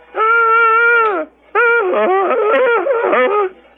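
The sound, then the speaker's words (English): A voice imitates a police siren by mouth, a so-called mouth siren: a steady, sustained wail that dips at its end, a brief pause, then a louder wavering, warbling wail lasting about two seconds. “In some cases, you're allowed to do what they call mouth siren or cop as siren.”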